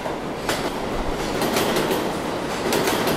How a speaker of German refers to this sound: Ich kenne die New Yorker U-Bahn eigentlich nur so. Laut, meist viel zu kalt klimatisiert und innen und außen metallisch glänzend.